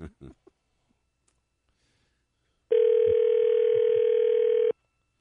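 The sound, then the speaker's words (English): A telephone ringback tone on an outgoing call sounds once, a steady two-second electronic hum. It comes after a few faint clicks and brief muffled sounds, then cuts off to silence. “Now, if he picks up right away, we will know what the real deal is.”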